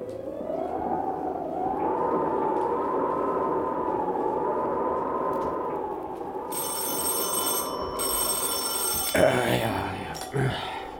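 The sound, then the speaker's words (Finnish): A telephone rings out loud at a police station in Vienna in the early morning hours, a steady shrill ringing that carries on for several seconds over a low murmur, ending with a couple of brief clunks. “Mutta aamuyöstä yhtäkkiä soi puhe.”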